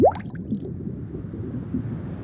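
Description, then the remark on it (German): A single wet plop of a small bubble rising and bursting on the surface of still, murky sea water right at the start, followed by a faint, low watery gurgle from the depths that continues quietly to the end. “Eine kleine Blase formt sich an der Oberfläche, wird immer größer und zerplatzt mit einem satten Plopp.”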